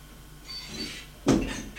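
A bedroom door swings open with a faint, soft creak, then is shut behind two people with a single solid thud that rings out briefly before fading, with no talking.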